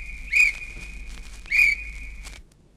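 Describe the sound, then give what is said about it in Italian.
A traffic officer's whistle shrills twice in quick succession, two loud, piercing blasts joined by a steady high tone, over a low street rumble. “Qui un colpo di fischietto del vigile non ce lo leva nessuno.”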